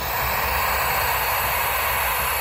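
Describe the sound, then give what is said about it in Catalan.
Five chicks from the Vallcalent wildlife centre, in a cardboard box at Montjuïc while being photographed, hissing like frightened cats: a steady, harsh, breathy hiss that carries on without a break for the whole stretch, fairly loud, over a low rumble, with no voices. “Els 5 polls procedents del centre de fauna de Vallcalent, on han nascut, han arribat aquest matí aquí a Montjuïc en una caixa de cartró i mentre els feien fotografies no semblaven massa contents. Bufaven com si fossin gats espantats. Escolteu-los.”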